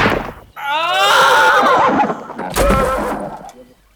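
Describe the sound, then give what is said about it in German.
A horse whinnies loudly as a man flees on horseback, then a single sharp gunshot cracks out and kills him, its echo and rumble trailing off after the blast. “Leider ist der Schuss nun doch gefallen, den der Apache gern vermieden hätte.”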